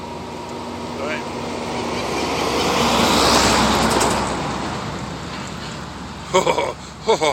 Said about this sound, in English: Wow, peak hour traffic. And here is a truck. It's carrying grain, I think.